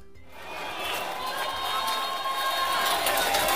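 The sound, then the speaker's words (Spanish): A large crowd of about 800 councillors at a gathering in Coquimbo roars steadily in reaction to a video of José Antonio Kast, a dense wash of applause, shouting and booing that swells after a brief quiet start and stays loud throughout. “¿Están aplaudiendo a Kast por una parte?”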